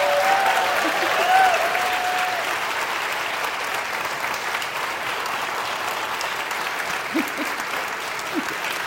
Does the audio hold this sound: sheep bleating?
no